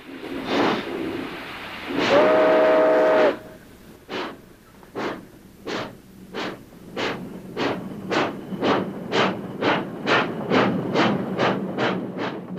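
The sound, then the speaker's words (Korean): A steam freight locomotive, stopped briefly to take on cooling water, gives a couple of hissing bursts and a short whistle, then starts off with loud, steady chuffs that gradually quicken as it pulls away. No one speaks. “그런데 증기기관을 엔진으로 단 열차가 냉각수를 보충하려고 잠시 정차한 사이 불황자 하나가 재빨리 기차에 올라탄다.”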